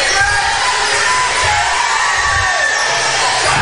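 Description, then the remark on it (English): A loud, sustained roar of the Newton basketball crowd cheering wildly after a made shot by one of their seniors, with overlapping shouts and whoops filling the whole few seconds without a break. “Yep, the crowd for Newton went wild, so I think that's very good.”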